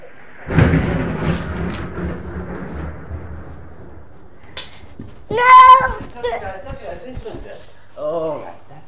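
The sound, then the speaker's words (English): A deep rumble of thunder rolls in loudly, then fades gradually over several seconds, followed by brief high-pitched voice sounds. “Thunder, that's okay.”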